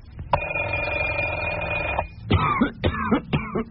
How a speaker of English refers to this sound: No sleep again. Coughed all night.